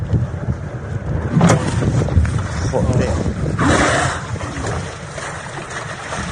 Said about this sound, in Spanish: Ese golpe seco que has escuchado es el de una orca atacando a un velero Urki 1, así se llama el velero. Imagínate lo que debieron pasar y pensar los dos tripulantes que estaban en ese velero cuando de madrugada les atacó un grupo de orcas.